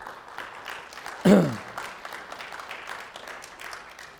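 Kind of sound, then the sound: crowd, audience clapping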